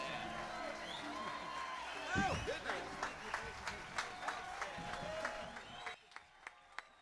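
Loud audience applause with whoops and cheers for a bluegrass band, thinning out near the end into a few scattered, isolated claps.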